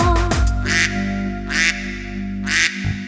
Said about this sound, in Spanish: de repente esto pasó. León rugió, un pato graznó